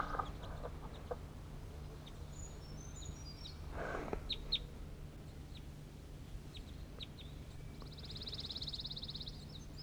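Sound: birds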